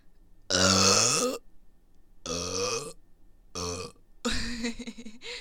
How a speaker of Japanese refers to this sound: やばい。なんかね、ほんと最近ゲップの音も大きくなってきてて、やばいよね。いや、今のちっちゃいけど。